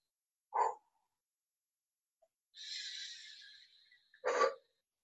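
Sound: dog barking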